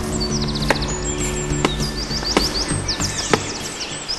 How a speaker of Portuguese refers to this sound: Um pica-pau de peito vermelho abre um buraco no tronco da árvore para que a seiva escorra. Ele voltará mais tarde para se alimentar.